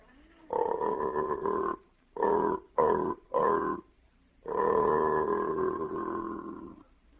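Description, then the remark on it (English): An aardvark mating call played backwards and slowed down: deep, groaning animal grunts, a long drawn-out one, three short bursts in quick succession, then a long fading moan, loud and close. “That was the same mating call, only played backwards and slowed down.”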